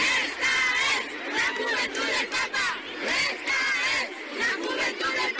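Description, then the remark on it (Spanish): A large crowd of young people at events during Pope Francis's visit chants a loud, rhythmic cheer in unison, many voices rising and falling in repeated bursts that stay strong throughout. “Y, por supuesto, este ha sido uno de los gritos que más se ha escuchado estos días.”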